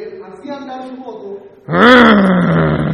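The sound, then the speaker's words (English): A voice imitates a stunt rider's motorcycle engine being turned on, starting with a low, steady buzzing hum, then bursting into a loud, gritty roar that slowly drops in pitch and holds to the end. “And then he'd turn that motorcycle on.”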